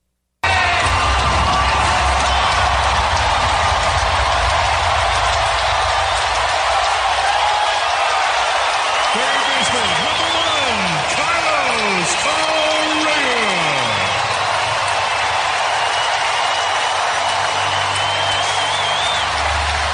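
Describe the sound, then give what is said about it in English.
A stadium crowd at Daikin Park roars in a sustained ovation for Carlos Correa's first plate appearance back, loud cheering and applause holding steady throughout, with faint walk-up music and a few sliding tones barely audible beneath the noise. “So that fan ovation is drowning out the walk-up music.”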